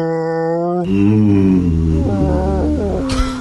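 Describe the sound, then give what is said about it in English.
A sperm whale mating call: loud, drawn-out moaning tones that waver and slide in pitch, one long wail flowing into another, with no voices. “Let's back it up one more time. And go to the whale mating. Here it is.”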